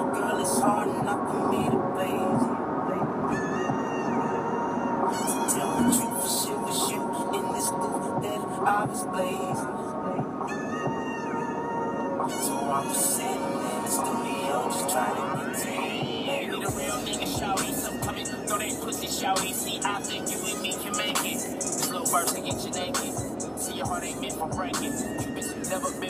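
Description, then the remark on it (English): Continuous road rumble and engine noise with a vehicle whooshing past around the middle, all mixed with music and indistinct voices at a steady, fairly loud level. “Traffic!”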